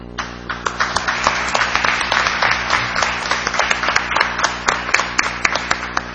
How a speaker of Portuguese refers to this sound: E eu estou muito feliz de estar aqui para bater palmas para você.